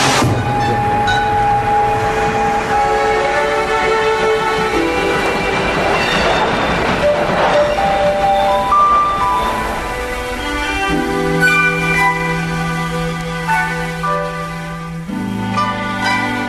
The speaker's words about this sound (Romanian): Ei, ia uite, sosește trenul de 8 și 10 pentru Londra. Gata. Închid intrarea pe peron.